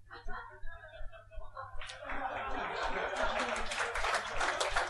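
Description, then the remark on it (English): A light, scattered patter of clapping from a small number of people starts up after a couple of seconds of murmuring voices and continues steadily, never building into full applause. “My favourite kind of applause is a smattering, so thank you so much.”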